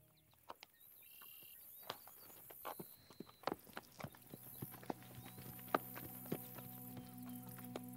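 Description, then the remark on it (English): Horse hooves clip-clop at an unhurried walking pace, sharp knocks, with a steady low hum and faint birdsong in the background. “The Pony Paddock, a gentle, calming place that an enchanting group of horses call home”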